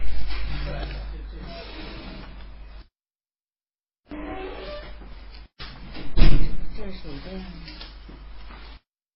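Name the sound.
door opening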